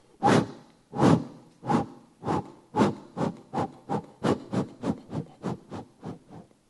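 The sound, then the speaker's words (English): A person imitates a steam engine with breathy vocal chuffs, about sixteen rhythmic puffs that start slow and speed up steadily, like a locomotive pulling away. No words are spoken. “When I was young, my mother taught me how to do a steam engine sound.”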